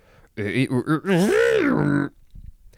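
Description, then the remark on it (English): A voice makes a distorted, gravelly sound effect: four quick grunting pulses, then a longer warbling groan that bends up and back down before cutting off. “Yes, that was everything for distort, which means we now need to make a distorted sound effect, which goes a little bit something like this.”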